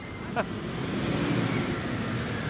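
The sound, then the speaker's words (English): A bus rumbles past a cyclist in city traffic, a loud, steady low engine roar with road noise filling the whole moment and no voices. “Yikes, that bus almost squished me.”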